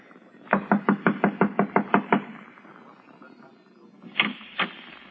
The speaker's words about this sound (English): Yes, sir. I'll knock on the door and try it again.